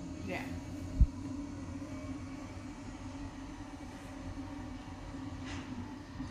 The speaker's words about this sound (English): Oh, they're like, it's like an actual train. That's cool. I didn't know that.